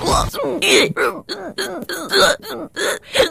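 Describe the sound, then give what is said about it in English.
A rapid string of about nine short, voiced hiccups, all the hiccups from a longer recording edited back to back, each a sharp throaty yelp with tiny gaps between, fairly loud and steady in rhythm, with no talking. “Well, I literally just put all of the hiccups together.”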